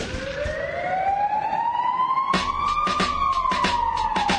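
A loud wailing siren climbs slowly in pitch, holds, then begins to fall, while sharp rhythmic percussive hits join in about halfway through.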